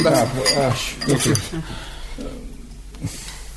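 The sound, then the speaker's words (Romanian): A glass of water is set down and handed over with a few light clinks of glass against dishware, while a voice talks over the first part before the clatter continues alone. “Vă rog, dați-mi un par cu apă.”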